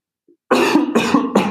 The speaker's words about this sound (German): Ich muss mal eben husten.